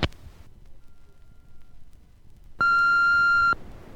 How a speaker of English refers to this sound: Leave your name and number at the beep.